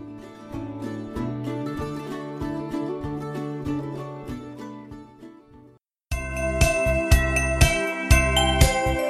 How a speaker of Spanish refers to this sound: ¿Escucháis esas campanas? Sí, ya llega la Navidad y con ella el último programa del año de Punto de Encuentro.